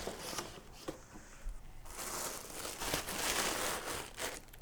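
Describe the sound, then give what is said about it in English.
A cardboard box being torn open, tearing and crinkling in a rough scratchy burst, a brief lull, then several more seconds of steady ripping and rustling with no one speaking. “Here I am, fighting with a fucking cardboard box.”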